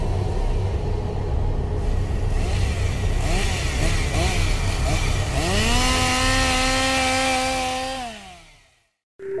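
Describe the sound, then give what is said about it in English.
A chainsaw engine, wielded by a maniac at Haunted Overload in Lee, New Hampshire, roars continuously, its pitch wavering and then revving sharply higher before cutting off abruptly near the end. “This is a chainsaw-wielding maniac from Haunted Overload in Lee, New Hampshire, and we love listening to Scare FM.”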